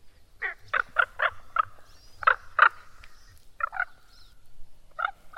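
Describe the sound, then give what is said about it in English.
A raven gives a series of harsh, throaty croaks in short clusters, loud, with brief pauses between bursts over a faint low rumble of running water or wind. “Some sounds I hear all year round. Like this raven.”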